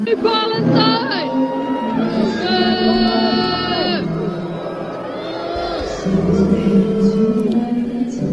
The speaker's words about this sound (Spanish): Más abucheos, más silbidos, nada de esto se ha escuchado en la retransmisión, por supuesto, abucheos por lo que Israel ha presentado una queja a la Unión Europea de radiodifusión.